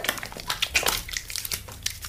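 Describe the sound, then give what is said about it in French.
Someone lathers their hands with soap, a quick run of soft, wet squishing and rubbing bursts in an irregular rhythm at moderate volume, with no voices. “C'est ça, laver les mains, la réponse officielle.”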